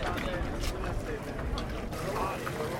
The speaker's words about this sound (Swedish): Oj, en båt här. Oj, nu står jag och tittar på de verkligt stora båtarna.